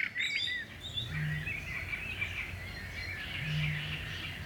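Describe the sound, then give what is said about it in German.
Two deep, hollow booms of a Eurasian bittern, a couple of seconds apart, sound beneath a busy chorus of higher-pitched songbird chirps and trills. “Rohrdommeln.”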